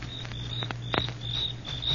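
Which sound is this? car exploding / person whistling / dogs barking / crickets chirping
crickets chirping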